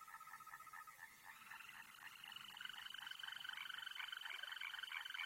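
A chorus of green toad males giving mating trills during their communal breeding season in late April to May. The long, steady, high-pitched, melodious trills overlap continuously, forming a dense, even buzzing trill somewhat like a canary's. Moderate loudness, no voices.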